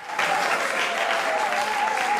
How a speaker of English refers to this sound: The local people have presented a compelling case, and the court declares the beach a protected zone. As everyone applauds